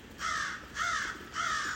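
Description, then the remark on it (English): A crow caws three times in a steady rhythm, each harsh call clear and moderately loud, with no voices present, while it is raining. “I hear the crow mostly.”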